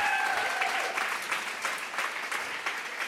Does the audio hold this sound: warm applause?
yes